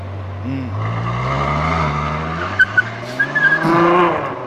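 A red Ferrari sports car engine growls and revs, its pitch climbing steadily, then short high tire squeals chirp several times near the end as the engine roars louder.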